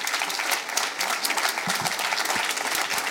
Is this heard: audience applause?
yes